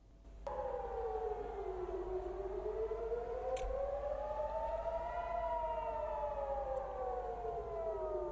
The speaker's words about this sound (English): Sirens have sounded in several areas of the occupied Palestinian territories following a fresh missile strike from Yemen.